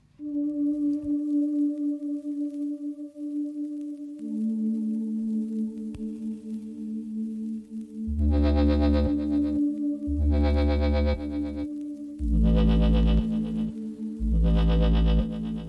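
An electronic music track opens with sustained, effect-laden synth tones, then heavy pulsing bass and bright, buzzy chord bursts kick in with a steady rhythm. No vocals yet; loud throughout.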